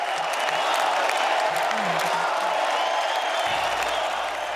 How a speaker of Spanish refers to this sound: Gran ovación para la sensibilidad de los brindis.